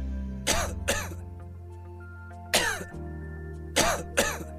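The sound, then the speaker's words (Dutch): Dry coughs from a sore throat come in harsh pairs, three bursts of coughing and throat clearing spaced a second or two apart over a steady low hum, with no one speaking. “Keelpijn, droge hoest, Activox verzacht de keel en helpt de irritatie te kalmeren vanaf de eerste prikkel.”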